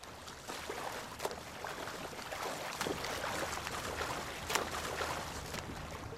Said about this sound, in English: The swimmer does the breaststroke as he passes by the reeds. Then he breaks into the front crawl.